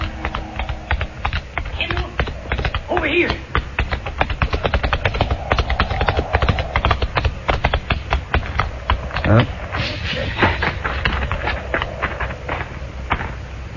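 Galloping horse hooves pound in a rapid, steady rhythm for the whole stretch, fairly loud, with the beats running together into a continuous drumming, as riders gallop toward a range of low hills.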